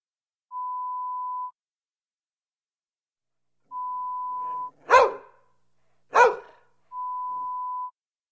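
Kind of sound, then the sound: animal, dog barking indoors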